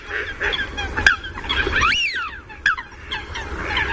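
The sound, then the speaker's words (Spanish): Coots, black waterbirds, calling with several high, sharp piping notes in the background, a few standing out clearly over a steady chorus of other waterbird calls, with no talking. “Y al fondo oímos unos pitidos, pitan las pochas. Las pochas son las aves acuáticas negras.”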